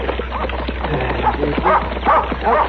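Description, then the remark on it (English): A dog barks and yips in a quick, uneven string of sharp, high calls, fairly loud, over a steady low hum. “Get away. Get away, dog.”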